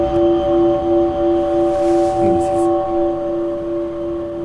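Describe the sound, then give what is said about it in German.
A struck church bell of a German-speaking audience, about 200 kilograms, whose worn clapper strikes too low instead of higher up, hums on, its several clear, steady pitched tones sustaining evenly throughout, with a brief murmur of a voice partway through. “Den Klöppel muss man erneuern. Denn das schlägt hier an. Es sollte eigentlich hier oben anschlagen. Das ist ein ganz anderer Klang.”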